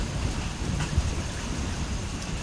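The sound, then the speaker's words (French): Heavy, torrential rain pours down in a rainforest in a dense, steady hiss that fills the whole scene, with a low rumbling roar underneath and no voices. “Soudain, une pluie torrentielle.”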